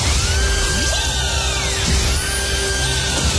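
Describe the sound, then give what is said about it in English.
Heart radio's 35K payday alarm contest jingle: loud, steady electronic tones with rising and falling sweeps over a buzzing, drill-like drone, running continuously with no voices. “This is Hearts. 35K payday alarm.”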